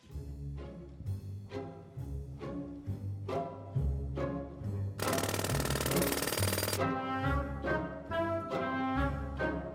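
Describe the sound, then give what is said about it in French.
A loud, rapid jackhammer rattle bursts in for about two seconds midway through a rhythmic concerto piece of music with pounding chords and a steady bass line. “Il s'appellera « Pollution sonore en fa majeur » pour mitrailleuse lourde et marteau-piqueur.”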